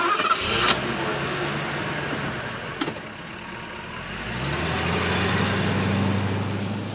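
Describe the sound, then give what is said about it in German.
A car engine cranks and catches near the start, settles into a steady hum, then revs up and pulls away, growing louder toward the end. No one speaks. “Und dann könnte es vielleicht bald sein, dass wir mit Stroh Auto fahren.”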